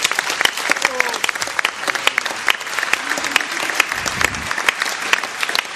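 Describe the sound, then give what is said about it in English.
A crowd applauds female staff members, clapping steadily and loudly, a dense wash of overlapping hand claps with faint voices murmuring underneath throughout. “Give them a great applause, please.”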